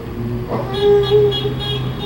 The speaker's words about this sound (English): Did you hear the car honking?